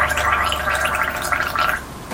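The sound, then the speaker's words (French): Someone brushing their teeth in the bathroom at 7:15 in the morning: a wet, bubbling, gargly churn that runs steadily for about two seconds at a fairly constant level, with no talking. “À 7h15, selon l'horloge de son four, il se lève, rejoint la salle de bain et se brosse les dents.”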